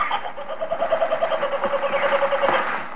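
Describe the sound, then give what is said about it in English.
A kookaburra in Australia gives its loud, rolling laugh: rapid repeated cackling notes in a steady chattering rhythm, sustained for a few seconds with no talking over it. “In Australia, he listens raptly to the call of the Kookaburra bird.”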